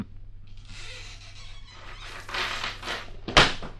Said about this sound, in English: Well, so, if you're ready to meet Grandpa, let's open up this trap door and drop in.